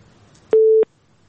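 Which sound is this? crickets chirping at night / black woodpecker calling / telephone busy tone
telephone busy tone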